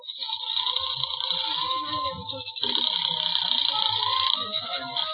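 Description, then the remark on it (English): A telephone rings through the line, a call placed from a phone booth in a college malt shop to the 5th Precinct Police Station, with a steady, bright, continuous trill that swells slightly partway through, fairly loud, with no one speaking. “When I went in, a bunch of kids were having a time playing records and making dates, so I slipped by them and eased into a phone booth and put in a fast call to the 5th Precinct Police Station and Walt Levinson.”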